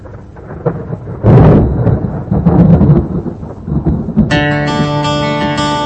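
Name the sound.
thunder rumbling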